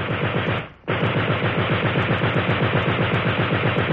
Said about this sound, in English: And just a few hundred yards to the rear, the water-cooled machine gun, spitting out hundreds of rounds a minute.